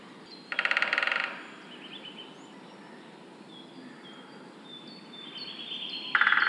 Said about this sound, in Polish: Mówiłem o tym, że dzięcioły mają również swój głos wokalny. To właśnie głos dzięcioła dużego.